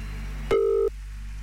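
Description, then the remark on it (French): A single short burst of a steady, mid-pitched telephone ringing tone, the kind heard while an outgoing call connects, sounding clearly over a low, constant background hum, as a phone in Dompierre, canton of Fribourg, is called live on air. “Et nous allons faire sonner le téléphone de Katharina à Dompierre.”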